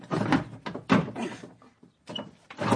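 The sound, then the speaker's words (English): Several rough scraping and thumping bursts as a stuck wooden bottom drawer, jammed by a book at the back, is tugged and jolted, sticking and jerking in short pulls before giving way, fairly loud. “Oh, and the bottom drawer won't open.”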